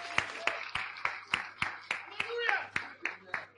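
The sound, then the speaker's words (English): A group claps in steady unison for a speaker, about a dozen sharp, evenly spaced claps over a few seconds, with faint voices and a low hum underneath. “Let's give him a clap offer.”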